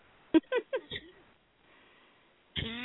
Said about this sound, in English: And just one brief second while I cough my lungs out.